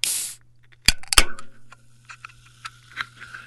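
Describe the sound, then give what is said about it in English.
A short burst of hiss, then two sharp metallic clicks as a seltzer can is opened, followed by a steady crackle of tiny fizzing pops. No one speaks. “For me, it was a seltzer.”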